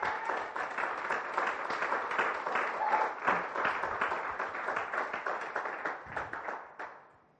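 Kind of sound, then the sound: crowd, audience clapping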